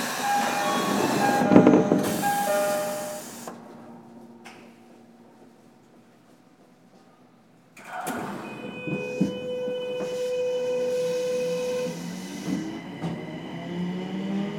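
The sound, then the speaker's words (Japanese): A Tokyo Metro Marunouchi Line subway train bound for Ikebukuro hums and rattles at platform 2, falls to a brief lull, then its electric motors whine up in steady rising tones as it pulls out of the station. “東京メトロ丸ノ内線をご利用いただきましてありがとうございます。”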